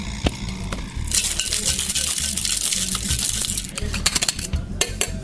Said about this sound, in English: Another little bit of pebbled ice. We will give it a whip shake.